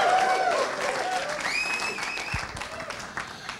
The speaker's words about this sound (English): That was a little bit of a country club clap.